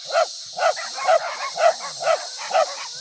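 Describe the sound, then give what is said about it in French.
Many dogs of a village area barking at dawn in a steady, quick rhythm, roughly seven sharp barks in three seconds, fairly loud, with no talking. “Le septième jour à l'aube, tous les chiens de la région se mirent à aboyer.”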